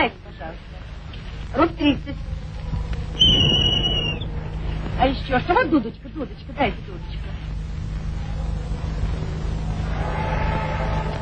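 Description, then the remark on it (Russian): A single short, shrill whistle blast, under a second long, sounds amid people talking over a steady background hum. “Дайте что-нибудь музыкальное. Вот свисток у вас.”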